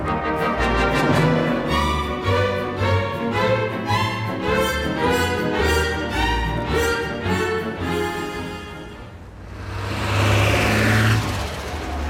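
A bus engine rumbles with a steady pulsing throb, then swells into a loud whoosh as the empty bus drives straight past a request stop without stopping, then fades away. No one speaks.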